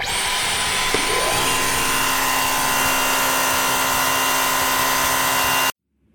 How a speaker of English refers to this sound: You're thinking, my wife probably does the hoovering, and it's not true. I do the hoovering.